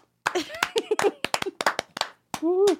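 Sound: people clapping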